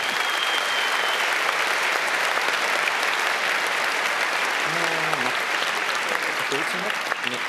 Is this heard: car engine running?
no